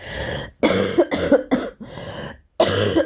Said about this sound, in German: Entschuldigt, dass ich ab und zu husten muss, aber das bleibt leider jetzt nicht aus. Ist also alles wirklich live und in Farbe und mit Nebengeräuschen.